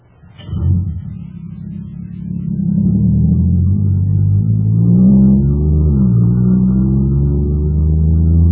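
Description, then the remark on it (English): A supercharged jet cycle engine, filled with super fuel, starts up and builds into a loud, steady roaring drone, its pitch wavering and rising as it revs, continuing strong with no talking. “Wow, this jet cycle is supercharged now.”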